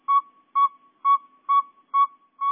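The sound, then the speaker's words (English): A male northern saw-whet owl gives a steady series of six clear, high tooting hoots, evenly spaced about two per second, loud with no other sounds. “Here are two males. Listen carefully to the pacing of their hoots.”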